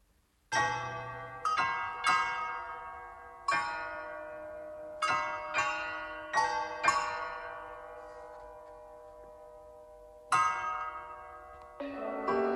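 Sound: music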